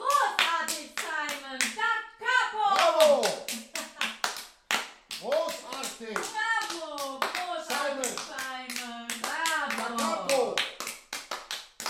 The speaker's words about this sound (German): Bravo! Gut gesungen. Alle klatschten.